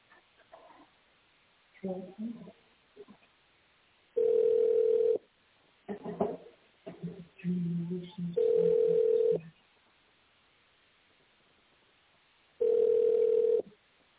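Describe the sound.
Three steady electronic tones from digits entered on a telephone keypad, each lasting about a second and spaced several seconds apart, come through a narrow phone line, with muffled voice-like sounds between the first two beeps.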